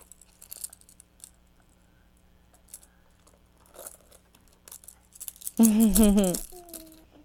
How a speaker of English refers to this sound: Uh-oh, you threw the keys. Where'd they go?